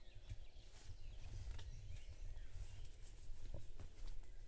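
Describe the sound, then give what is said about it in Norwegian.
Faint birdsong in a forest clearing, with scattered chirps over a soft background hiss and a few light rustling or stepping sounds. “Jeg tror måske, der er flere fugle hernede end derude.”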